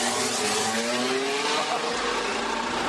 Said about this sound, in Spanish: escuchen cómo suena el coche de Carlos Sainz